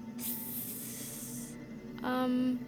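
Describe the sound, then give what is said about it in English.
A steady, airy snake hiss rises suddenly and holds for over a second before cutting off, followed by a short, louder buzzing tone with a low hum throughout; no one speaks. “Hiss.”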